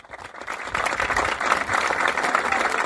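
An audience breaks into applause, rising quickly from a faint start into a dense, steady wash of many hands clapping that holds at a fairly loud level for about three seconds. The applause honours an organiser of an event of the Asociación de Sociedades Tradicionalistas de Paysandú.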